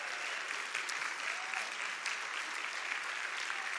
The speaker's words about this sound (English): if you are graduating from high school or from college, I would like for you to stand up so the church can see, so we can honor you with a clap.